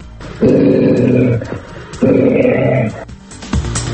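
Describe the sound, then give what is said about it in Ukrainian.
A wolf growls twice in deep, rumbling bursts of about a second each, loud, separated by a short pause, with softer snarling noises trailing after. “На допомогу міліції можуть прийти вовки.”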